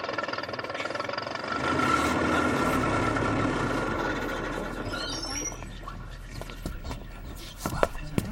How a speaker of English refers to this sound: I stood next to an evil-looking fellow and was greatly relieved to see the bus arriving a few minutes early.